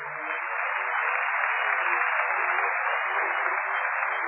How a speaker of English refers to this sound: You can clap anytime you want.